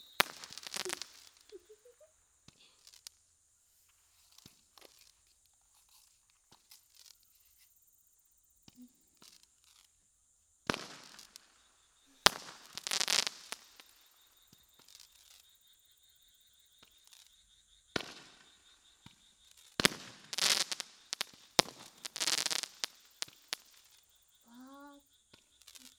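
fireworks exploding

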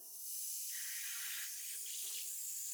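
running water

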